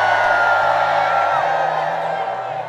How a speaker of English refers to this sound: We want to take a crowd photo with you right now. So on the count of three, I want you to get your hands up as high as you can and to scream as loud as you can.